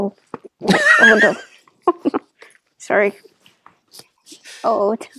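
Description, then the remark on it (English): A dog lets out three loud, high, wavering whines or yelps over a few seconds, the first the longest, with a short spoken word between them. “My dog came and said hi.”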